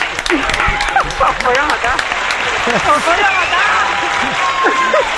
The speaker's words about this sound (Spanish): Y un aplauso para la gran ….